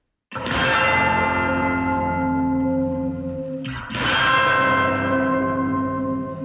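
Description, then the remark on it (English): Two loud, bright glissandos played with sticks on the side of tubular bells, each blooming into a long, ringing metallic sustain with a slightly processed, echoing character; the second sweep comes about three seconds after the first. No voices. “But we did like a glissando with the sticks on the side of the tubular bells.”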